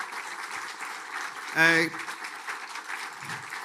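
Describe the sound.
Steady, dense applause from a crowd runs through the whole stretch, with a brief voiced shout or cheer rising above it partway through.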